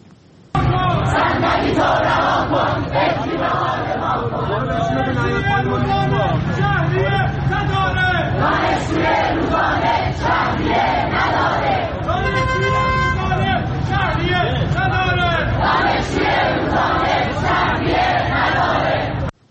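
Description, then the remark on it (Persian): A large crowd of University of Tehran students, gathered in Iran to protest tuition fees for remedial courses, shouts and chants together loudly and continuously, voices overlapping in a dense roar with rhythmic call-like bursts throughout, filling the whole stretch. “در اینجا هم از تجمع شماری از دانشجویان دانشگاه تهران در اعتراض به وضع شهریه دروس جبرانی ویدیویی رو میبینید و میشنوید.”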